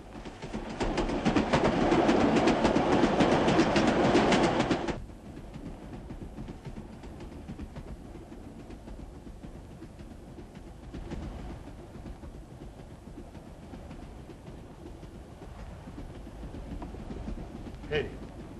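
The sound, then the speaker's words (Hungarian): The noon train rolls along the rails with a loud, dense rattling rumble for about five seconds, then settles into a quieter, steady rolling noise with a few faint clicks. “Ezt az embert a déli vonattal a határra viszik.”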